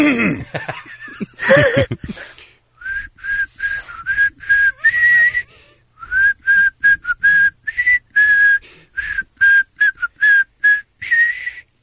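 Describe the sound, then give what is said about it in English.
A radio caller whistles a simple song melody for the Kevin and Bean Whistle the Hits segment, short pitched notes in a bouncy rhythm with brief gaps, following a moment of laughter at the start. “I don't whistle as well.”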